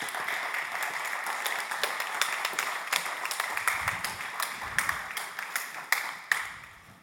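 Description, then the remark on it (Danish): An audience claps a woman up onto the stage, clapping steadily for several seconds, a dense patter of many hands with a few sharper, louder claps standing out near the end, and no voices over it. “Kan vi lige klappe hende herop?”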